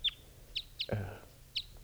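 Birds calling at a mist net, with one bird caught in the net and others still free: four short, high chirps spaced irregularly, with a louder, harsher, lower call in the middle lasting about a third of a second, over a faint low background hum.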